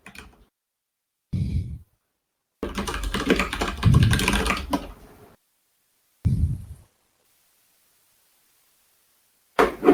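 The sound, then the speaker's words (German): Bursts of typing on a computer keyboard: a few short clusters of key clicks and one longer rapid stretch, separated by silent pauses, with no one talking. “Du kannst auch reden, wir hören dich tippen.”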